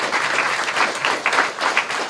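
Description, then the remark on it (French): An audience applauds steadily for a person's work on video game culture, a dense wash of many hands clapping at a fairly loud, even level with no voices over it. “Je crois aussi qu'on peut applaudir”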